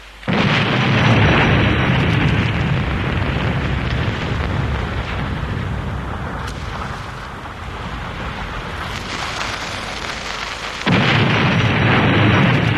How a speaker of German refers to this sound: Doch, sprengen können wir. Sprengen ist gut. Hm? Aber womit? Mit Pulver. Ich hol welches und dann lassen wir es knallen.